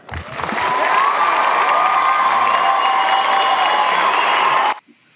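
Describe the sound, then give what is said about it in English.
A recorded applause-and-cheering sound effect: a crowd claps and cheers loudly and steadily for about five seconds, a dense wash of hands and whoops that swells in quickly and then stops abruptly. “The applause is killing me.”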